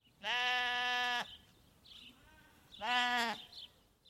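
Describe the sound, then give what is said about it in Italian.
A sheep bleats twice, each call a long, wavering baa, the first about a second long and the second shorter, with quiet pauses between. “Il verso della pecora.”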